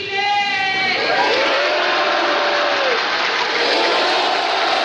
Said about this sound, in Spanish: Ahora sí, viva Chile, grita una persona en la grada que es respondido por todo el Salón de Honor con un aplauso.